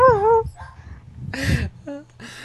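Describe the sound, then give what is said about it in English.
A tiny male puppy lets out a few high, thin yips and whimpers in quick bursts, with faint background noise between the short cries. “It's such a puppy bark. Well, he's a tiny dog.”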